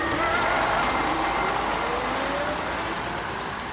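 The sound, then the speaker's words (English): A number 42 bus pulls up at a bus stop, its engine a loud, steady roar with a broad hiss that eases slightly as it slows to a stop. No one speaks. “Here you are, the number 42 bus stop. Ah, here's the bus now.”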